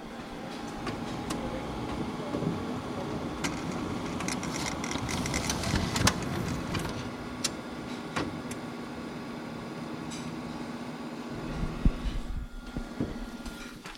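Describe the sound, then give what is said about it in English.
A printer runs with a steady mechanical whir and hum with intermittent clicks and clacks as it feeds and prints, continuing throughout with no one speaking. “I really need to use your printer right now. Okay, stay tuned, listeners. We're going to print something.”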